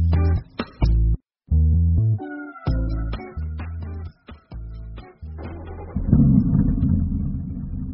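An old car's engine runs unevenly during a drive to work, with loud revving bursts broken by abrupt cut-outs, then settles into a steady, rumbling drone.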